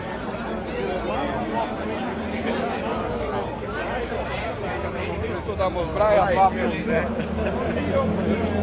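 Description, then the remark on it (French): A dense hubbub of many voices chatting at once on café terraces along a pedestrian street in Zagreb, Croatia, a steady crowd murmur with a few voices rising briefly out of the babble, as if walking through the gathering. “Voilà, et là, on passe parmi une foule de gens réunis sur les terrasses, sur cette rue piétonne, toujours à Zagreb, en Croatie.”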